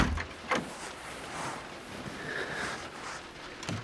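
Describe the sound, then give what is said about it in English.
A door is pushed shut with a soft thud, followed by a second brief knock near the end, against a quiet background with a faint hiss and no voices. “Oh, darling, could you shut the door behind you? It's a bit drafty.”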